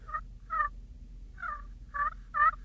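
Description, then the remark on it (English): Soft turkey tree yelps made on a friction call by moving the striker only about a quarter of an inch, five short raspy notes in an uneven rhythm over a faint low hum, quiet. “But just a tree yelp, just a real saw.”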